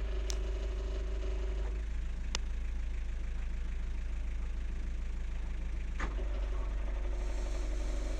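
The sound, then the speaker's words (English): A boat engine idles steadily with a deep, constant low rumble, fairly loud, broken by a few sharp clicks or knocks, while the boat is being moored in wind and lines are tied up. No one speaks. “I'll switch the engine off in a minute.”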